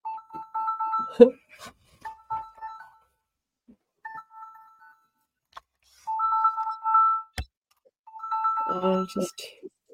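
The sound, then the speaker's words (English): A phone ringtone chimes in repeated bursts of two-tone electronic notes, with short pauses between rings and a few brief thuds and voices in the background. “I don't know where it's the ringing is coming from.”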